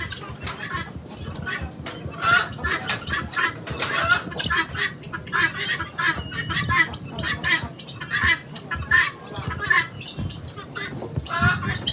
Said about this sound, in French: La dernière étape de notre présence à Ouangolo est le marché de la volaille.